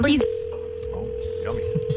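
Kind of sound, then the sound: signal or alarm, telephone dialing tones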